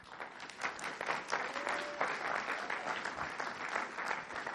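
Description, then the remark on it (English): A church crowd applauds a pastor after his sermon with dense, continuous hand clapping that holds at an even level for several seconds, and a faint brief whistle-like tone rises partway through. “Can you give God another big hand clap for him?”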